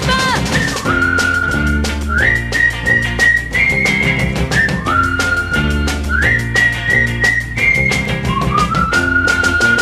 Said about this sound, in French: Le sifflet des copains. Ça veut dire bonjour, alors comment ça va? Je suis bien contente de te rencontrer là. Si tu t'ennuies, viens faire un tour avec moi. C'est ça le sifflet des copains.